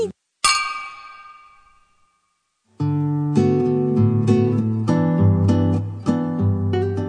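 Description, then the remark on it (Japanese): A single bright clink of glasses of chilled drinks touching in a toast in a shop, ringing out and fading over a second or two in a quiet moment, before a louder, fuller wash of sound takes over. “じゃあ乾杯しましょう。”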